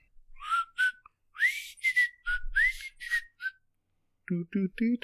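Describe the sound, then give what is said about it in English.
A person whistles loudly and breathily right up against the microphone, a quick run of short, sliding notes over a few seconds, followed by a brief burst of voice at the end. “You know, you really don't want to do whistle into the mic.”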